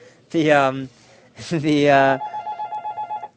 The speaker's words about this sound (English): This is an early phone call.